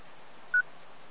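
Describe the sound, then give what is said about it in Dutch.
A single short telephone keypad tone beeps once, clear, over a faint hiss of background noise, with no talking, as someone makes a phone call. “Pak ik even de telefoon erbij. Dan bel ik je even.”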